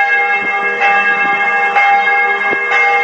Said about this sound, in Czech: Upravo je deo razgovora o ćutanju ključnih državnih institucija pa i crkve bio obojen zvukom zvona sa hrama Svetog Save, pored koga se nalazi Narodna biblioteka, pod čijim krovom se odvijala konferencija o suočavanju sa prošlošću.